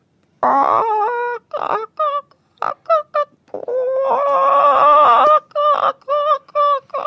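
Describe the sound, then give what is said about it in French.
Someone imitates chickens, mixing drawn-out squawking calls with quick bursts of short clucks, loud, with no other talking. “Et les poules? Les poules, allez-y.”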